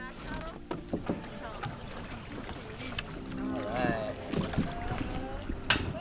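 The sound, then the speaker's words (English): Paddles dip and splash as a canoe moves through water with irregular strokes, while voices murmur over light wind. “Paddles forward.”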